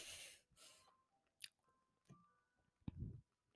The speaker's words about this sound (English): We've also got popcorn. That's probably why you'll be hearing me crunching.